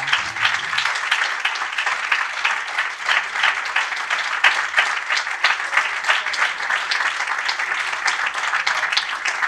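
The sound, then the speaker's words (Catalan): An audience applauds steadily for the whole stretch, a dense wash of many hands clapping at an even, lively level with no talking on top. “Així que, de veritat, un aplaudiment per aquesta gent”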